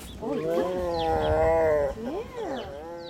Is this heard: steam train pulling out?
no